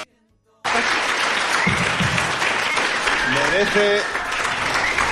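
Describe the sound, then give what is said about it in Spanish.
Sustained applause from a crowd starts abruptly after a brief quiet moment and continues steadily, loud and dense, with faint tonal voices or cheers rising briefly within it. “Merece, sí, un fortísimo aplauso”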